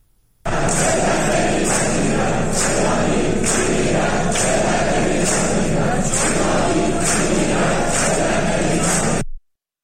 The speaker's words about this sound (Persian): صدای دانشجویان دانشکده مکانیک خواجه نصیر در حالی که دانشگاه در محاصره یگان ویژه بود را بشنویم که فریاد می‌زنند ایرانی می‌میرد، ذلت نمی‌پذیرد.